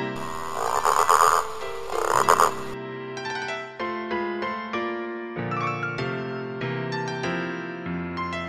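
Two loud, raspy frog croaks ring out in the first few seconds, then give way to a gentle melodic music passage with sustained tones.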